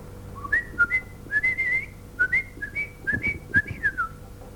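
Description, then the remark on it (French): A person whistles a blackbird's song: a run of short, bright, warbling phrases rising and sliding, clear, with brief gaps between notes and no talking. “Et aussi une cage en osier blanc dans laquelle sautait un merle noir.”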